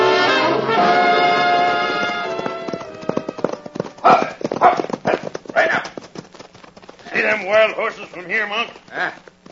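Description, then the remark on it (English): A horse named Thunder gallops while carrying a keg of powder, its hooves in a quick, steady clip-clop rhythm, loud. Voices call out over the hoofbeats near the end. “All right, boy. Let's ride.”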